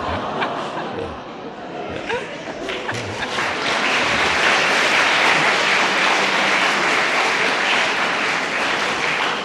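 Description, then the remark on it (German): Sustained audience applause, a dense wash of many hands clapping that starts moderately and swells louder after a few seconds, holding steady to the end. “Sie können klatschen, ist ja nicht mein Verdienst, ne?”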